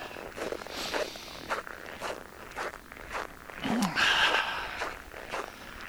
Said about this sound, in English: You can probably hear my footsteps. You can hear the texture of the snow that I'm walking on is that, I don't know, what does that sound like? What does that even sound like? It's like I'm walking on styrofoam packing peanuts.